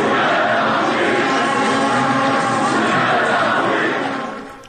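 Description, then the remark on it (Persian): A large crowd at Azadi Stadium cheers for Voria Ghafouri during the Esteghlal versus Naft Masjed Soleyman league match, a loud, dense, sustained roar of many voices, holding steady for several seconds before easing off at the very end. “بله، تشویق تماشاگران بازی استقلال و نفت رو شنیدیم نفته.”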